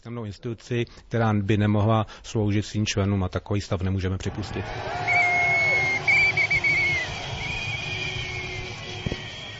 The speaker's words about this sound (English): Traffic was brought to a standstill when the crowd gathered at Prague's Letná plain. While whistling, drumming, waving the flags of various trade unions and holding up banners with slogans like Serfdom was abolished in 1781